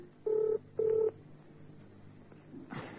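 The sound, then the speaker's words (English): A telephone number for Pietermaritzburg being dialed: two steady electronic tone beeps of equal length, each about a third of a second, separated by a short pause, followed by a brief rustling noise at the end. “Ah, well, thank you very much. I'll call right away.”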